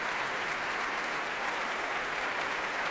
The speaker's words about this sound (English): Straight to Andrew Haveron, the leader of the Reese Symphony Orchestra, to shake his hand. Very, very warm applause.